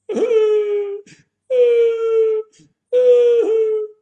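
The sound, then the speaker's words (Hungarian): Three separate mid-pitched shofar blasts, the broken shevarim pattern, each a steady, reedy note of about a second with short pauses and faint breaths between them, loud and close. “Ez egyfajta sírás, ami hasonlít a truához, és utána van az a fajta sírás, amit a szagatat hang, a svári.”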